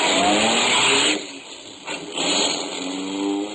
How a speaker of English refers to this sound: I packed him in the car, drove off in high.